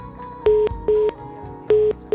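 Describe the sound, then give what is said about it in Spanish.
Short, loud telephone beeps repeat in a steady on-off pattern, the kind of tone heard after a call drops. Four bursts sound over a faint, low background. “Y vamos a presentar la llamada que teníamos, pero se acaba de cortar el teléfono.”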